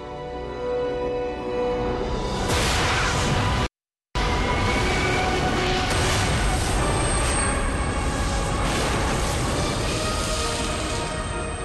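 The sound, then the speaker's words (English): A cinematic explosion sound effect representing the Big Bang, from the Fox TV series The Cosmos: a loud, broad rumbling roar that swells in, cuts to a split second of silence, then bursts back as a sustained thundering wash. No one speaks. “January 1st, the Big Bang.”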